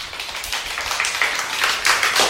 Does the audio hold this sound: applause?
yes